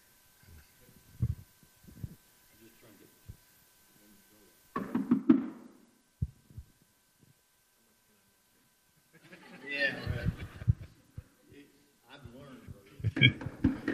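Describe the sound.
Several sharp knocks on a house door ring out near the start as visitors call door to door to talk about their faith, followed by a short thumping burst, then people begin talking in the latter half.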